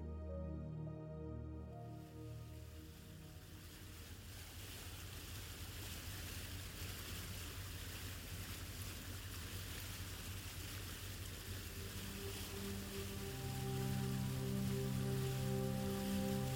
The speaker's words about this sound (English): The ferry engine rumbles steadily beneath you.